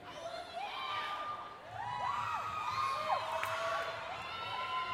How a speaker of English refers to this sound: I like this part of the show. I like the awkwardness right now. It's like some girls screaming. There's some people patiently waiting.